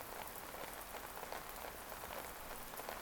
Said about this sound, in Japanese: 昔々、ちょうどこんな雨の日。